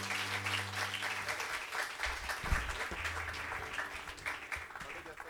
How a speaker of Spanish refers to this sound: En el nombre de Jesús, denle un fuerte aplauso al Señor por su fidelidad.